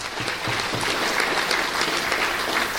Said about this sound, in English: So thank you all, and I hope everyone gives them a round of applause to the organizers at UNAC for this great job.